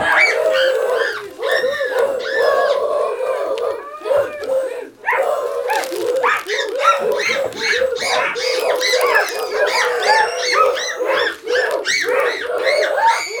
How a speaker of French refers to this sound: Lorsque soudainement, surgit au-dessus de sa tête une horde de bêtes sauvages aux cris effrayants. Il avait pénétré sur le territoire des singes.